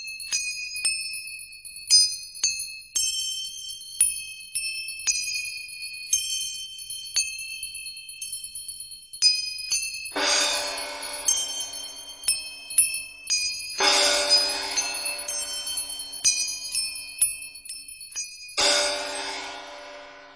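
Small manjira hand cymbals and bells ring steadily, with bright sustained metallic tones and repeated light strikes, punctuated by three louder shimmering cymbal clashes near the end. No voices.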